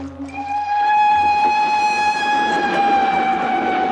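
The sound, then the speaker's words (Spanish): A steam train crossing a plain at night in South Africa, 1893: its whistle sounds one long, steady, loud tone over the continuous rumble and rattle of the rolling train, with no voices. “Por la noche, un tren a vapor atraviesa una planicie.”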